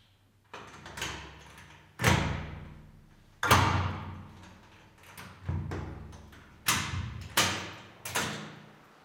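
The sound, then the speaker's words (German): A heavy cell door being opened, marked by a series of loud metallic clunks and thuds spaced a second or two apart, each ringing out with a short echo. “Und da ist die Tür wieder offen. Das klingt auch schon anders als zu Hause, die Zimmertür.”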